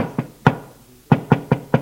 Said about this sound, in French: Frappe à une porte.